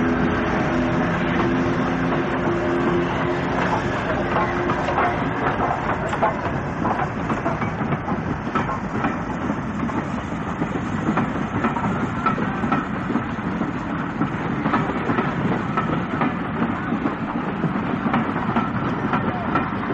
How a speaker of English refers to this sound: And you'll be able to pick out the noise of the electric locomotive gearing, revving up, and the conrods of Flying Scotsman as she moves away being towed by the electric locomotive.